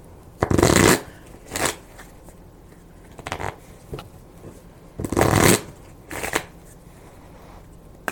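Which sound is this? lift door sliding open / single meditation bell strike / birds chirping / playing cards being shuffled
playing cards being shuffled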